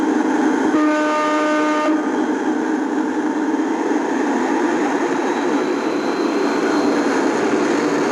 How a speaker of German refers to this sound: Der schwere Diesel kommt in Schwung. Er brummt und dröhnt und röhrt und wummert. Langsam setzt sich die Lok in Bewegung. Sie ist 60 cm lang, 5-6 Kilogramm schwer und dreht ihre Runden in einer alten Halle in Naumburg im Süden von Sachsen-Anhalt.